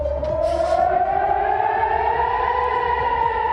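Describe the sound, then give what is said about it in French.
A loud air raid warning siren wails steadily in Israel at night during an Iranian attack, its tone slowly rising in pitch, with a low rumble underneath and no voices. “Les sirènes d'alerte ont retenti cette nuit en Israël, visée pour la première fois de son histoire par une attaque iranienne d'ampleur, opération baptisée Promesse Honnête.”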